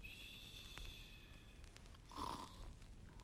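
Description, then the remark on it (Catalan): A single rough snore from a sleeping ogre rises briefly near the end over quiet background hiss, a throaty, rasping breath with no talking around it. “Qui és que ronca tan a prop?”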